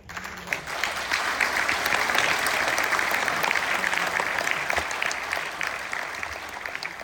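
Sustained applause from a large group in a mission control auditorium, celebrating the Ariane rocket's release of its satellite: a dense steady patter of many hands clapping at an even loudness for several seconds, with no speech over it.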